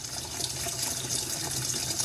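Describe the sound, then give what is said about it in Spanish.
Water runs steadily from a sink tap that a child playing with the water has opened for more water while someone washes. It is a continuous hiss and splash with no pauses, filling the whole moment, with no voices present. “Y pues en este proceso una de las personas que me acompaña siempre está ahí jugando con el agua de la pileta y abriéndole a la llave para que haya más agua y yo seguir lavando.”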